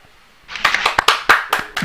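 Scattered applause starts after a brief quiet moment, a handful of sharp, close claps overlapping in a loose, fairly quick rhythm that stays strong until the end.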